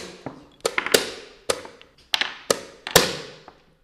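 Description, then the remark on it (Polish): A chess clock is pressed again and again after moves: a quick run of sharp, crisp clicks and taps at an uneven pace, some louder than others, with no one talking. “Musisz wykonać ruch i kliknąć zegar.”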